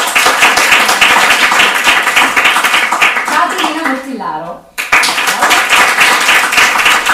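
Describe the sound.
Sustained audience applause at a presentation, loud and dense, with a voice briefly announcing a speaker's name during a short lull before the clapping swells back up.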